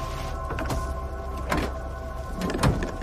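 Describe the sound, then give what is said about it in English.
A soldier opens the back door of a truck halted behind an armored vehicle on a new housing estate, with a few sharp metallic clunks and rattles spread over a few seconds above a steady low mechanical hum. “A soldier opens the truck's back door”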